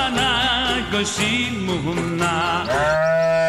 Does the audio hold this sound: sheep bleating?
yes